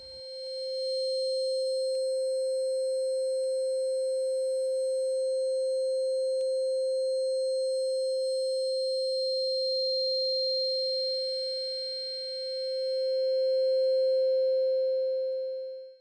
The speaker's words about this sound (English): Tinnitus.wave.